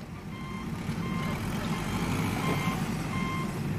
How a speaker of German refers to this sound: Ein langer Tag auf der Baustelle. Der LKW steht seit Stunden, die Sonne brennt, die Konzentration sinkt. Die Baustelle zieht sich.